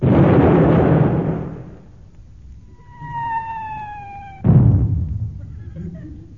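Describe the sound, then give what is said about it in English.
A ship's gun fires at a bubble car with a loud, rumbling boom, followed by a steady high whistling tone and then a second sudden, sharp blast that fades out. “All guns ready, Chief. Yes, sir. I think. Right, at bubble car, fire one.”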